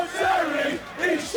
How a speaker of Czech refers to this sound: V českých luzích a hájích se před lety chytil pokřik na hosta dnešní tiki-taky. Ten zněl i v roce 2009 v Edenu při titulových oslavách Slávie.